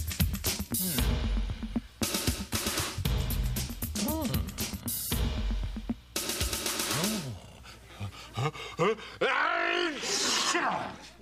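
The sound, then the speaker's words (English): A run of loud, exaggerated sneezing fits, with strained, groaning vocal wind-ups and harsh bursts of breath repeating over about eleven seconds, without any speech. “Bless you.”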